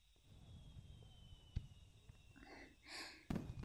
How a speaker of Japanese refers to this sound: また来年もこうしてお兄ちゃんと二人で花火見れるといいなぁなんて。